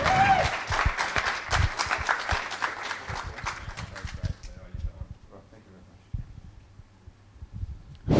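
An audience claps together, a dense, steady burst of many hands that carries for several seconds and then fades away, leaving soft low thumps and quiet shuffling.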